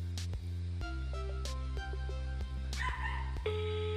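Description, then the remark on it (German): A dog barks a few times in short, sharp yips spaced across a few seconds over a steady humming background with no one talking. “Ignoriert den Hund einfach, hört einfach zu.”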